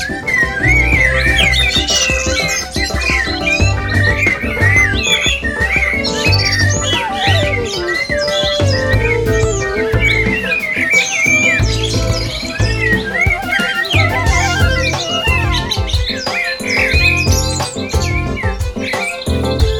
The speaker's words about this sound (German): Worauf die Schwarzgefiederten gemeinschaftlich erwiderten, von Dach zu Dach und Ast zu Ast. Alles wird vom Gesang erfasst, von Herzen, aus dem Vollen, wenn Amseln Hochzeit machen wollen.